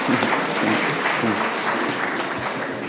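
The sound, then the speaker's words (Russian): A crowd at a legislative assembly session claps steadily to congratulate a deputy on his birthday, a dense patter of many hands that stays fairly even and modest in energy throughout, with no voices standing out. “Заочно поздравили, но что-то слабо мы под аплодисментами-то поддержали.”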